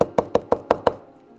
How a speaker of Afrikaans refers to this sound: Hy sê in vers 20, kyk, ek staan by die deur en ek klop.